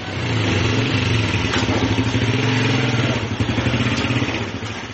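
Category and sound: vehicle, motorcycle engine running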